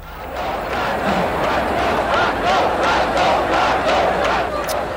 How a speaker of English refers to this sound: Crowds chanting in adulation of Francisco Franco, the dictator who ruled Spain from the end of that country's civil war in 1939 until his death 50 years ago next weekend.